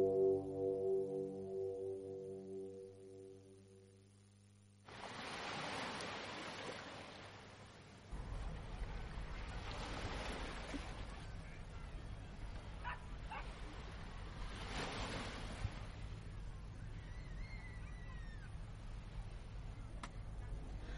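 Ocean waves wash in broad, hissing surges every few seconds over a steady low rumble, following a brief soft tonal passage at the start; no one speaks.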